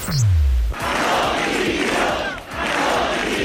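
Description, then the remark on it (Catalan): A large protest crowd in València, at the third demonstration demanding Valencian president Carlos Mazón's resignation, chants "Mazón dimissió" loudly in unison, voices rising and falling in a repeated rhythmic call, opening after a brief low swooping tone. “El crit de Mazón dimissió reclamaven responsabilitats a la Generalitat Valenciana.”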